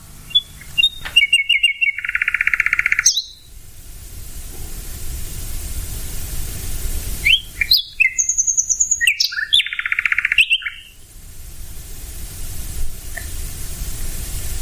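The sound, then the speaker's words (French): A songbird sings at night, loud, varied phrases of rapid trills and bright whistles, separated by short pauses, over a steady hiss of background noise, with no voices. “Et donc, on le remarque moins, alors que la nuit, on peut admirer ce soliste virtuose.”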